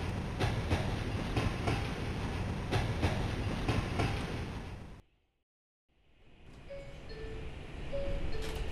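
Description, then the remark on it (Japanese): A subway train, the ride from campus to the Metropolitan Museum taking 30 minutes, rumbles loudly along the rails with a steady clickety-clack, cuts to brief silence, then the rolling rumble returns with a few faint high tones over it. “キャンパスから地下鉄で30分かかります。”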